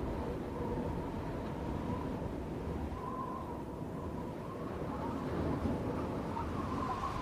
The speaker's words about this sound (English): The train continues down the track out of view.